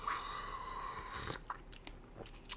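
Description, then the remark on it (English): A slurping sip of pu'er tea, a whistly airy draw followed by a few small wet clicks and a swallow, quiet and with no talking. “Let me take a sip of my pu'er tea here.”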